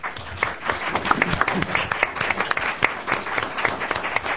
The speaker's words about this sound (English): And I want to applaud him one more time because it's an amazing effort that you do. Thank you so much.